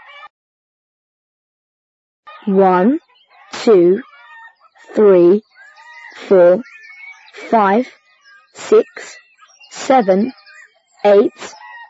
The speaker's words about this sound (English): And these are chickens. So many eggs. Thank you, chickens.